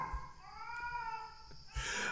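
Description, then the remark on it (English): A cat yowls outdoors in one long, drawn-out wavering cry lasting over a second, faint, with no voices nearby. “That cat needed to hear that mantra, Ain.”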